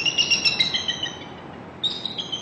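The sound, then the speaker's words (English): Eagle calls from an eagle nest, heard via a webcam: a run of thin, high-pitched chirping whistles, then a short pause before another burst of piping notes, over a steady rushing background hiss. “Via the webcam, Merrill and others get much closer than they can in person, watching run-ins with intruders and hearing the eagles' calls.”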